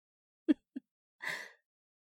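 A fake cough: two short, throaty bursts in quick succession, followed by a longer, breathy rasp, all fairly soft and with no talking.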